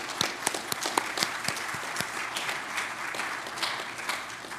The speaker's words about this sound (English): And let's go ahead and give her a round of applause. Thank you.